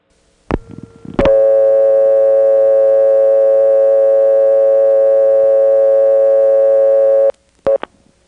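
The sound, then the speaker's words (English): A telephone dial tone from the alternate tone plant of the step exchange in Wilson, North Carolina, on a call within that exchange: after a couple of handset clicks, a loud, steady, buzzy tone holds unbroken for about six seconds, then cuts off with more clicks. “So here's a call within the Wilson step while the alternate tone plant was in use.”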